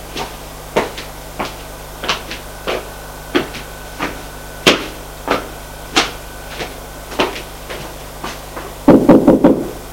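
A series of sharp knocks on the wooden door of a son's bedroom, spaced unevenly over several seconds, ending in a quick flurry of rapid raps. No one speaks.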